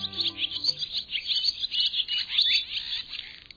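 Swallows chirping in a busy, continuous stream of high twittering calls, many overlapping chirps at moderate volume with no voices present.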